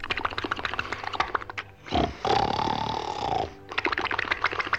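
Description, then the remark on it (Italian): Loud snoring of someone asleep in bed: a rough, rattling stretch of snorts, then one long drawn-out rasping snore, followed by more choppy grunting snorts. It sounds like a voice imitating the snoring. “Poi, ogni tanto, si calmava e cominciava a russare forte forte.”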